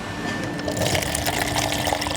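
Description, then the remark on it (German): Kombucha runs from a tap into one of two glasses, a steady splashing pour with bright bubbly spatter over a low gurgle, continuous for about two seconds with no talking. “Jetzt habe ich zwei Gläser und wir werden zapfen.”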